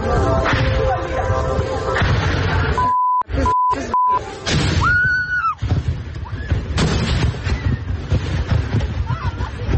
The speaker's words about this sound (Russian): Люди в панике пытаются укрыться от осколков ракет у стены. На фоне слышно, как разрываются кассеты.